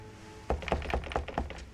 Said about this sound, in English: Snowflake still clinging to his shoulders, he sighs deeply, then lifts a hand to knock on the door.